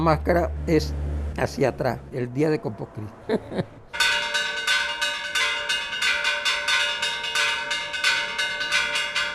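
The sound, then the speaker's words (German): A person talks briefly, then a church bell in Parita is drummed rather than swung during Corpus Christi festivities, sounding as a fast, steady run of loud metallic beats with a continuous ringing tone underneath. “Und dann wird auch schon mal die Kirchenglocke getrommelt statt geschlagen.”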